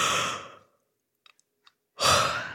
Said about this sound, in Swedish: Det är att du går in i ett rum där ingen annan är och gäspar. Ha ett gäspmaraton. Testa nu när jag pratar.